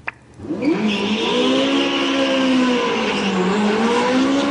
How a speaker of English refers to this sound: This is for an experimental battery electric performance car that has a third the energy intensity of a Prius. And they're putting it up against a Ferrari.